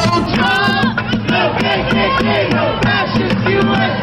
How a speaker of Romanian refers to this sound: Nu-l vrem pe Trump și nicio Americă fascistă, au strigat manifestanții care au făcut referire și la organizația rasistă și extremistă Ku Klux Klan.